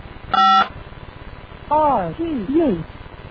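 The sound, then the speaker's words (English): A single short burst of electronic telephone ringing over a slightly hissy line, followed a moment later by a voice speaking briefly; a phone line to an alarm RTU ringing during testing. “Here, it's ringing.”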